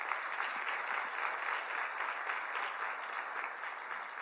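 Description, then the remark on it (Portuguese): An audience applauds for Jesus, a dense wash of many hands clapping at once, sustained and even for several seconds with no one speaking over it. “Você pode dar uma salva de palmas a Jesus.”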